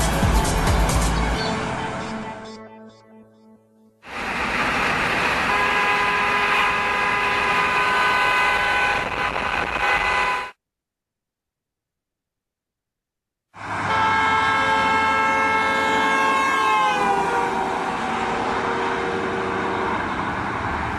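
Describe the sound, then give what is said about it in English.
A car horn blares in long, loud sustained blasts separated by brief silences as a car drives along a road at high speed; in the last blast the horn's pitch audibly drops as the speeding car rushes past the person recording. “We're going to have the other inside a car, moving at a high rate of speed. As the car passes me, it's going to blow its horn.”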